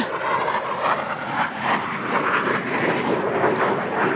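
airplane flying low overhead

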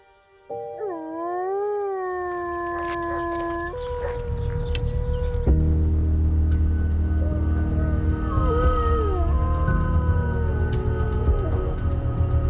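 wolves howling

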